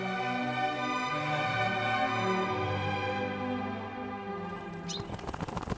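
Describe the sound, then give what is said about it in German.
A sustained, droning musical tone fades down, then a quick burst of rapid wing flapping rushes in at the end as a crow arrives. “Oh, die liebe Krähe ist da.”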